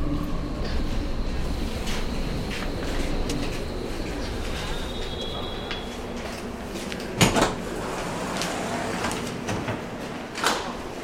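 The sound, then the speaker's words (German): Coins clink into a paper cup held out by a man collecting money from passengers on a U-Bahn (subway) train: two sharp, brief clinks several seconds apart, standing out against a steady, noisy background rumble. “Und schon klappern die ersten Münzen in den Becher.”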